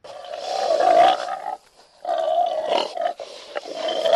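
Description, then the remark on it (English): Pigs squeal and grunt loudly in two long, noisy bursts separated by a short pause, with no voices present, on a pig farm at a rehabilitation center in Bamenda, Cameroon, while six former militants clean the farm. “A group of 6 former militants clean a pig farm at the Bamenda Center for the National Disarmament, Demobilization and Rehabilitation Committee.”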